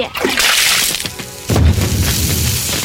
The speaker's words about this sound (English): I couldn't stop him, Mom. He threw the water on the TV and all the lights went out in the house.